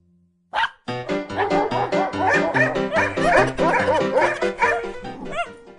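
A dog barks rapidly and excitedly, a dense run of sharp, high yips and barks that goes on for several seconds after a short opening yelp, with no one talking.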